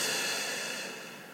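exhaling through the mouth

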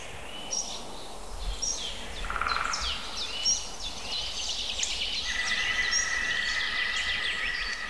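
green woodpecker calling

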